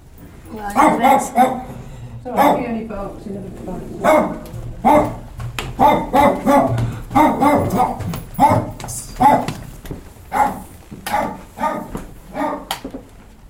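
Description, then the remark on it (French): A dog named Tiger barks repeatedly, fairly loud, at a home on Royal Avenue in London on 20 November 1984, its yaps scattered over voices talking. “Et le chien Tiger.”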